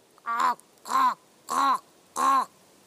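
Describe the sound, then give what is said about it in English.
A human voice imitates a raven call into an old oak forest in southwest Finland near Tampere, in winter with snow on the ground, giving four harsh, croaking caws at an even, steady pace, each about a third of a second long, clear with quiet pauses between. “It was in the winter, and the snow was on the ground, and I started to call a Gallic raven call into the forest.”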